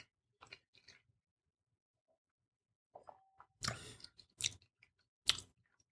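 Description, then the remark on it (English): Chewing and biting a frosted dessert with icing, on the left side of the mouth, with crunchy, wet mouth sounds in irregular bursts, a quiet pause in the middle, then louder crunching toward the end. No one speaks. “Anyway, let's try a little bit of that. Mm-hmm. And I got to chew it on the left side.”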